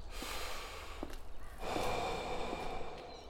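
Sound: heavy panting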